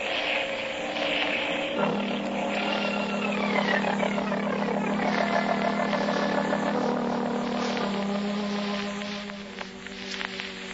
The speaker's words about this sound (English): Where are you? In a seaplane along the coast somewhere.